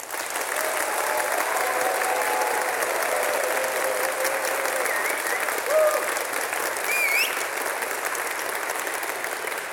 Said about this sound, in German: Gut, wir machen das vielleicht einfach mal so als ein Testklatschen. Stellen Sie sich jetzt mal vor, Deutschland hätte tatsächlich gewonnen. Und jetzt bitte einmal alle klatschen, ganz laut.